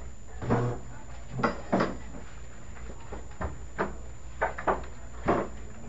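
A door being closed, with a series of soft knocks and clunks spread irregularly across a few seconds as it is handled and shut, otherwise quiet.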